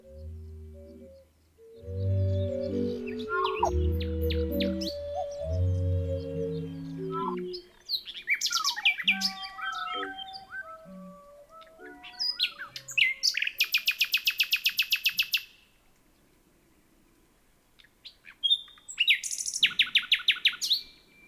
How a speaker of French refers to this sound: Le chant du rossignol a quelque chose d'électrique, de suspendu, dont la beauté est bien plus profonde que sa douceur. Très souvent, son expression comporte plus de silence que de vocalise.